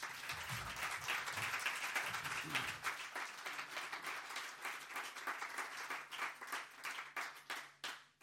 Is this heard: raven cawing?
no